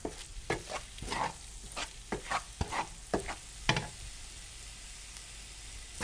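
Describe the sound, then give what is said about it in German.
Shrimp sizzle and crackle in a hot pan, with a steady hiss underneath and a series of sharp, irregular pops and scrapes from stirring in the first half, fairly loud, no voices. “Bring gerne hier aus der Pfanne.”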